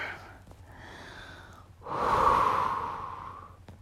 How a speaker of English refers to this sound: And I'm still gasping for air.